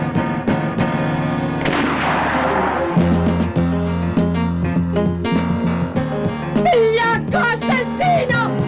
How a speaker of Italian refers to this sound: E che c'hanno i cannoni da Navarone questi? A Calabre! Che cazzo spari a Calabre?